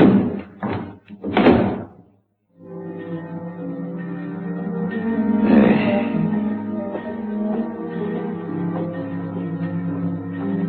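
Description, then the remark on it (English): A heavy morgue compartment door marked 12 is shoved and shut after a sliding slab is pushed into the compartment, with a couple of loud clunks and a final slam, then a brief silence before a low, steady droning hum continues. “And unhurriedly, he pushed the sliding slab into the compartment and closed the door marked 12.”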